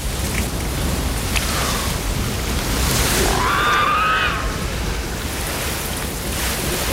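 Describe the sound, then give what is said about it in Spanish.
A steady, loud roar of rushing water like a waterfall fills the scene continuously, with a brief high warbling call rising over it midway through. “Jake camina sobre el delgado pasillo bajo el salto de agua.”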